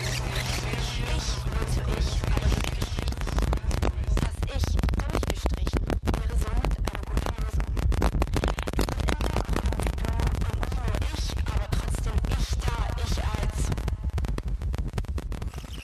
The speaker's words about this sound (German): Tja, und diese unangenehm knarzende Geräusche, das sind Aufnahmen der Gehirnwellen